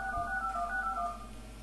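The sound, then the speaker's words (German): Quick series of DTMF touch-tone beeps as a telephone number is dialed live in a radio studio, steady dual-pitched tones running back to back for about a second, fairly clear over a low background hum. “Also, dann tun wir da mal eine Nummer.”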